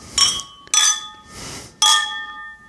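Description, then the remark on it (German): Glasses clink together in a New Year's toast, three or four bright taps, each leaving a ringing tone that lingers briefly, with a soft rustle between them and no voices. “Und dann würde ich sagen, stoßen wir an auf das neue Jahr.”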